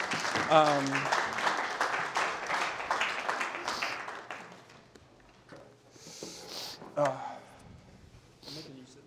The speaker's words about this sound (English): And we should give them a clap because they don't have to do this.